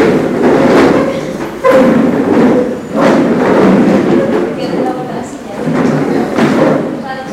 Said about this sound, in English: Yeah, try it once. Just, everybody, turn your chair. Turn your chair.